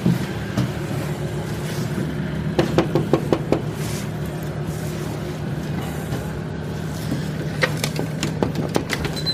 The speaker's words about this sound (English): It's 2 a.m. at this point, so I have no idea what their reaction will be. I knock on the door, no one replies.